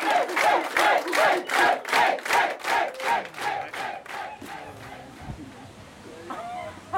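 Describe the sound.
A sauna audience at an Aufguss steam show cheers and shouts in loud rhythmic bursts, roughly a dozen pulsing chants in a row, as the show ends, before the noise fades into scattered voices and murmuring.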